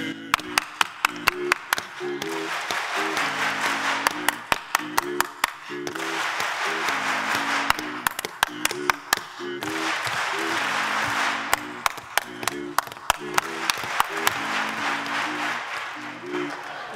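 A single person claps out crisp rhythmic patterns, and a crowd answers each one with a dense burst of group clapping. The call-and-response repeats several times while voices hum underneath.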